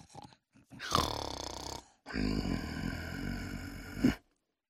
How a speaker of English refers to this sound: We followed the sound of the snoring.